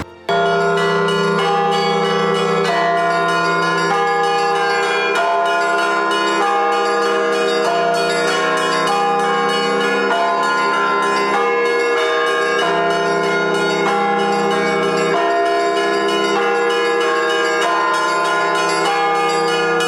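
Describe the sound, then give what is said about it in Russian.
Church bells peal loudly and steadily, strikes landing roughly every second and their long ringing tones overlapping into a dense, continuous wash. No voices are heard. “в моей практике есть много случаев, когда, слыша удар колокола, человек полностью изменял свою жизнь и приходил в храм.”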